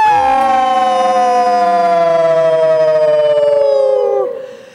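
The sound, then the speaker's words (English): A voice imitates a coyote howl: one long, loud, wavering cry that rises briefly, holds for about four seconds while slowly sliding down in pitch, then fades out. “And he was so sad, he started to howl.”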